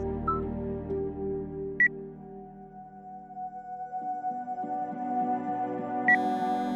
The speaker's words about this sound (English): Why did you start recording? Because your phone is ringing. I'm not allowed to answer it during mom school. She's in the other room, and it's an unknown caller.